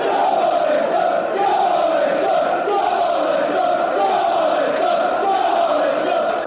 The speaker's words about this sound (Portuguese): Eram os adeptos do Leicester a celebrar as suas vitórias